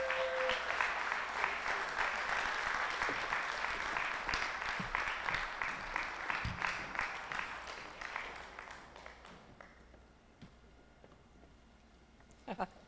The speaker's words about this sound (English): I want to give them a round of applause.